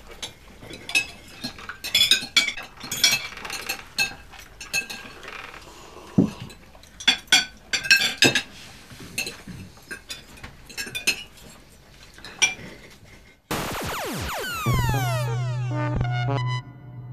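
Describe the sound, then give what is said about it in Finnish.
Cutlery clinks and scrapes against plates at a dinner table in quick, irregular bursts of bright metallic taps, with no voices, before a sweeping electronic tone and a steady low hum take over at the end. “Hyvät ystävät, käykää kimppuun. Nauttikaa.”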